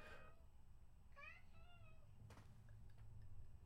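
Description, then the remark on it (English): A male cat meows a few times, with drawn-out, wavering cries over a steady low background hum, followed by a couple of soft clicks. “Your cat doesn't even know what he's meowing about.”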